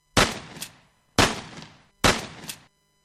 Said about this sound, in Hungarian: A léptek mögötte álltak meg, az atya fémes kattanást hallott, majd egy hang belekiáltott a templom csendjébe. Allah Akbar. Lövés dördült. Háromszor.